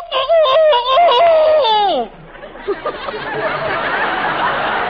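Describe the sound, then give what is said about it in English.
A human voice mimics a rooster's crow as a sound effect for the play 'Don't Play with Strangers', in a farmhouse scene set in early morning: a loud, strained call of several stepped notes ending in a long falling wail, followed by a steady wash of noisy laughter and chatter. “All right, this is the first time I've been a rooster.”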